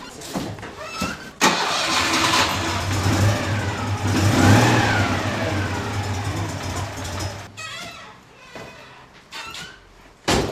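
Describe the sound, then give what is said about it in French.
A Citroën 2CV car engine cranks and catches, then revs up and down loudly, its low throbbing drone rising and falling before cutting off near the end. “Et celle-là aussi, on pouvait la monter avec la manivelle ?”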